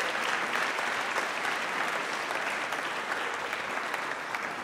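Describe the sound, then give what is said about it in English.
An audience claps steadily for several seconds, a dense, even wash of applause at a fairly strong level with no voices standing out. “And I'm just so glad they got a better round of applause than the mention of spring break did a few minutes ago.”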